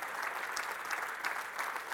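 A church audience applauds Christ, a dense, steady wash of many hands clapping at once that holds at an even, moderate level throughout, with no one speaking over it.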